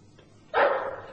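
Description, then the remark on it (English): A dog lets out one sudden, loud bark, its harsh sound lingering briefly before fading, after a moment of near silence. No one speaks. “I'll shoot the dog as it comes out.”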